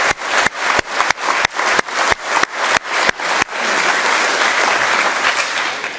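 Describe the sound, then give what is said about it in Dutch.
An audience in a large provincial assembly hall applauds loudly, starting with steady rhythmic clapping in unison that breaks after a few seconds into dense, continuous applause without any talking. “Dan mag u best even een applaus geven.”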